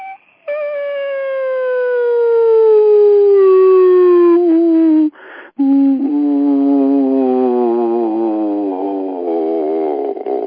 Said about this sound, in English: And we'll go sweep down through all the frequencies to the lowest, which is around 20 hertz.